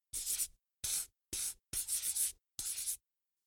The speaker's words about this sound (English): Put a circle around it with a purple pencil and color it pink.